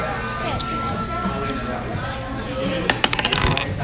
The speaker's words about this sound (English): Roll. Everyone? Mm-hmm. We all roll to avoid. Oh, my dice is weighted. I got a one again.